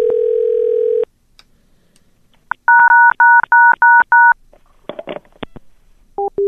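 A steady phone dial tone cuts off as someone picks up a telephone call, then a quick, even run of about six loud touch-tone beeps follows as they press the keys, with some handling clatter and a couple more tones near the end.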